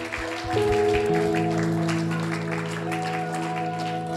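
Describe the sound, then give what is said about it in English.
An audience claps steadily in praise for several seconds, a dense crackle of many hands, over sustained organ or keyboard chords that swell in partway through. “Come on, let's give him a good hand clap of praise.”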